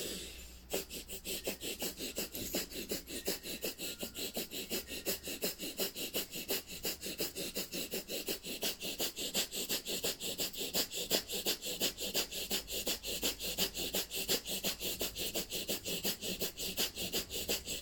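Rapid, forceful breath of fire during a held posture with arms, chest, head and legs raised: quick rhythmic exhalations through the nose pumping steadily at about two or three per second, loud, continuing without pause and with no talking.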